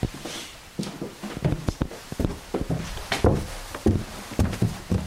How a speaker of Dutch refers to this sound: Dan lopen we naar boven. We gaan naar boven, we gaan de trap op.